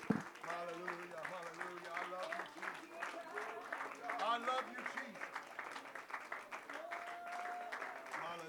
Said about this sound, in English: Can the children of God clap your hands unto the Lord right now and lift up your voices unto him?